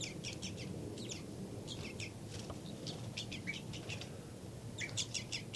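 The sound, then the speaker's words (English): Bird alarm and flight calls, with an alarm call by the bird labeled 3-3 and flight calls by the bird labeled 5-9: clusters of short, sharp, high-pitched notes repeat in quick bursts over a steady low background rumble, with no talking. “Alarm call there by 3-3 back into a tube series.”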